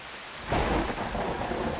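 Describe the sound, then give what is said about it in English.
Heavy rain pours down outside at night in a dense, steady hiss, jumping suddenly louder after a brief quieter start as a low rumble of thunder rolls underneath. No voices are heard. “It was raining buckets out there”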